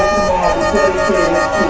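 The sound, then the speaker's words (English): Several horns honk at once in a loud, continuous blare, their overlapping steady tones shifting slightly in pitch for the whole stretch without a break. “A lot of honks.”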